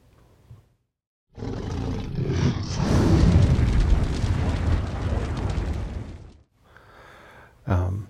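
A fire-breathing dragon roar sound effect: a loud, rumbling roar blended with a rushing blast of flame, lasting about five seconds, then a quieter hiss and a short final burst.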